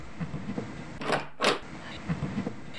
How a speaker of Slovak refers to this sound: Spinkoš vyskočil z postele a pomaly otvorí dvere.